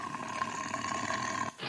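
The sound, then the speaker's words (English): A tiger's roar played as a sound effect, one loud sustained growling blast lasting about a second and a half before cutting off abruptly, with no talking over it. “Let's go to the tiger.”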